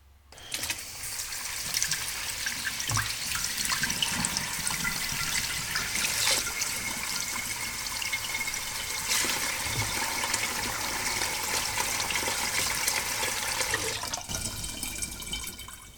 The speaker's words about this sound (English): Next, you can hear me turning on the water at the kitchen sink, ready to wash some dishes.